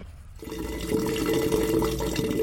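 Water rushes and gurgles steadily after a brief quiet start, a continuous flow of wastewater pouring through the pipes of a young farmer's grey water sewage collection system, used to reuse wastewater for farming in the Arusha region of Tanzania, with no voices.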